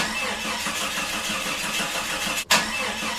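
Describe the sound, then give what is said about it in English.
An old, rusty car engine starting and running with a rough, steady rattling drone, fairly loud, briefly cutting out near the end before roaring back. No voices. “Like, I had this car that was the worst car ever.”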